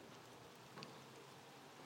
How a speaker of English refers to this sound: It's raining again.